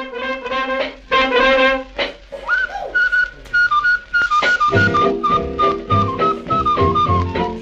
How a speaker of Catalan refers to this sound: Bé, nano, bé, com xiules. Xiula molt bé, xiula aquest tio. Xiula tan bé que pensava quin instrument és aquest. Doncs un tio xiulant. Un tio xiulant t'omple d'alegria, eh?